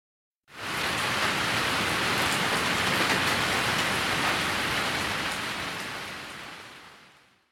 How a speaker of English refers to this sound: The sky is dark. Big raindrops fall.